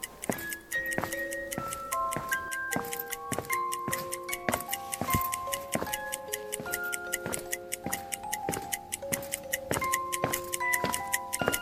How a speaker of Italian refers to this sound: Poi la mia attenzione cadde su un ticchettio che sentivo lontano. Più camminavo in avanti, più il suono diventava forte.